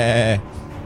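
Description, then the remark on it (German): A goat gives one short, loud bleat, a wavering nasal cry lasting under half a second before cutting off into quiet background noise. “Die Ziege beteiligt sich erneut bei dem Gespräch mit einem”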